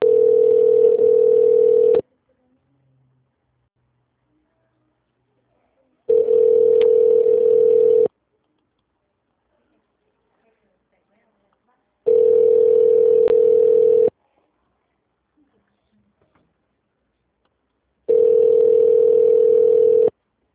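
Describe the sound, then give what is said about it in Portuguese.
A telephone ringback tone while a call connects: four steady, mid-pitched tones, each about two seconds long, separated by roughly four seconds of silence, with no talking. “ou aguarde para ser atendido. Conectando.”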